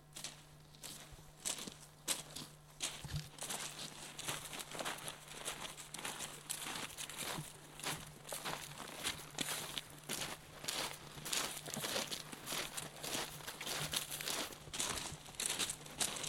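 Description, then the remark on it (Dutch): Steady crunching footsteps on gravel, several people walking at an even pace along an existing railway track toward the Dutch-German border, with crinkling rustles and a low constant hum in the background. “Zullen we even een stukje richting Duitsland lopen?”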